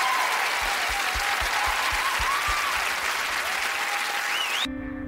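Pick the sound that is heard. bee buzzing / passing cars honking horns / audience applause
audience applause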